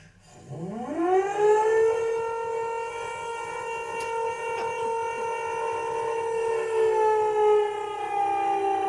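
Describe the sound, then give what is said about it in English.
An air raid alarm siren winds up from a low growl into a loud, steady wail with rich harmonics, then holds its pitch for several seconds with no voices. “The most unusual sound, the sound of an air raid alarm.”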